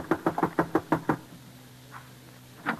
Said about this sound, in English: So, just as I'd always done, I left Johnny in charge, rode down to the old-timer's shack, and knocked on his front door.